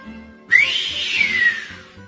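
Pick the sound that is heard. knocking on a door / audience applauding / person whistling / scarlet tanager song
person whistling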